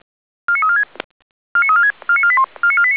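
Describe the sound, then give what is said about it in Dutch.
Emergency crew pager alerting tones calling out the Koten fire brigade's thatched-roof crew to a fire in the thatched roof of a farmhouse in Zeist: four bursts of rapid stepped electronic beeps, each a short sequence of shifting pitches. A click and a pause follow the first burst, then three more come in quick succession. “De stoeltjes en de bemanning worden nu gealarmeerd.”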